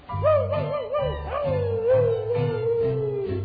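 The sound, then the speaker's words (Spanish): A dog howls in one long, wavering, mournful note that rises, dips and slowly trails downward over a few seconds, with a steady low rhythmic rumble underneath. “Aviente ese perro. Agua, ahí viene el perro con la muela.”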